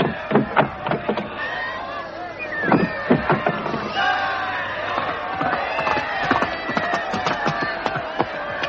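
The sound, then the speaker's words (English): A large crowd of subjects lining the route from Oxford into London cheers and shouts continuously, many overlapping voices filling the scene, punctuated by sharp claps or knocks throughout, lively. “From Oxford, the whole route is lined with cheering subjects.”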